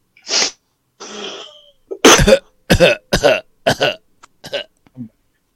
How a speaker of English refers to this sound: Excuse me, I'm going to cough for a second because I need to cough.